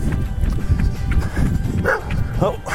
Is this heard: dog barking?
yes